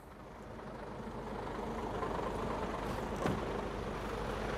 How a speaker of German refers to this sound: Verkehr vor dem Schlachthof Teterow, LKWs bringen schlachtreifes Vieh.